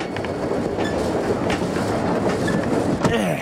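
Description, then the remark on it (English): A passenger train on a ride from Chicago back to Odyssey rumbles steadily along the rails, with a dense low-frequency roar, faint rhythmic clacks and brief metallic squeaks near the end, continuous. “Wow, Whit and Eugene are taking a train ride from Chicago back to Odyssey.”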